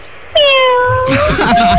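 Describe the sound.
A caller leaving a phone message mimics a cat with one long, loud meow that slides gradually downward, followed by a brief breathy rush and a short, steady squeaky tone.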